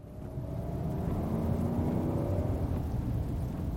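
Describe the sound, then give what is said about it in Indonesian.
A car engine revs steadily louder as it accelerates, a continuous low rumble with rising tonal whine, sustained with no voices. “Laju mobil itu semakin kencang. Begitu juga dengan suara mesinnya.”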